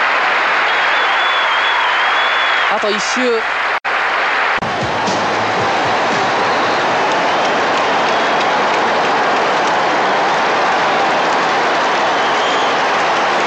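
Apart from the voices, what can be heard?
crowd cheering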